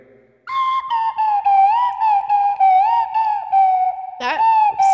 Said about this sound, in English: but do you think the Adoits are interested in listening to us do slide whistle covers for the next hour?